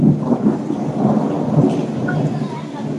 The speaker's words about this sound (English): So says the heavens. Can you hear the rain? I'll be quiet for a moment. Yeah. It's a little rainy season here. Just like it was in Florida, but I'm in a rainforest right now. It's so brilliant.